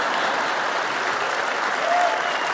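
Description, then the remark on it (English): An audience claps steadily, a dense, even wash of many hands with no pauses, loud and sustained throughout with no one speaking over it. “Thank you for those that clapped.”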